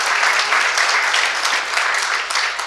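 An audience applauds steadily as a presenter comes forward to give a talk on hacking a Tanzanian ISP, a dense, even wash of many hands clapping at a fairly loud level with no voices on top, tapering slightly toward the end.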